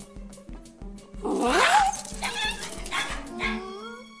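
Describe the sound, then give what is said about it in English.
A fluffy dog named Kyle barks and yelps, its high, strained cries rising and falling over a steady, pulsing musical beat in the background. “Girls, this is Kyle, my dog.”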